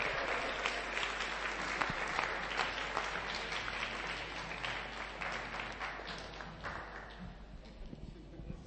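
A crowd claps steadily in sustained applause, a dense patter of many hands that stays fairly loud throughout before easing slightly toward the end.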